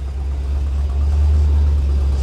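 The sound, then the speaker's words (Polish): A big American V8 car engine with original exhausts idles with a deep, steady, throbbing rumble that stays loud and even throughout, the sound coming from both the exhaust and the engine, with no voices. “Amerykańskie V8, to amerykańskie V8.”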